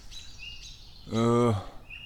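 Thin, high-pitched bird calls chirp repeatedly, restless and agitated as the birds mob an owl in a humid valley, while a brief low human voice hums once in the middle.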